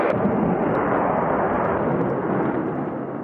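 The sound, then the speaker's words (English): An F-16 fighter jet roars overhead through a sharp blue sky during a Red Flag exercise, by the 64th Aggressors squadron building: a loud, dense wall of engine noise with deep rumble and hissing highs that holds steady for a few seconds before easing slightly. No voices. “F-16s occasionally course through the sharp blue sky.”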